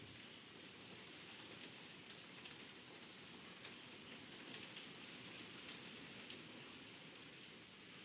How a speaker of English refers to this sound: And the rain nourishing, providing for the ground, for the soil, pouring into the ocean,